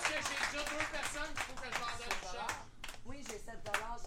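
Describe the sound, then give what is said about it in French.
An audience at an auction claps in a steady patter after an item is sold, while voices shout and chatter over it throughout, the noise staying loud and even for several seconds. “Une belle main d'applaudissement.”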